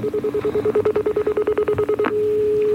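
A telephone number, the broadcast's on-air line, is keyed in with a rapid, evenly spaced run of touch-tone beeps, roughly twenty short tones, followed by a steady continuous tone. The sound is clear, with no talking.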